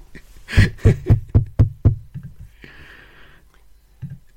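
Six quick, loud knocks on a house's front door with a door knocker shaped like two boiled eggs, in a steady rhythm, followed by a few softer thuds and a brief airy hiss.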